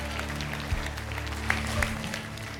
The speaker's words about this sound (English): Now give the Lord a clap offering and say, I receive my miracles.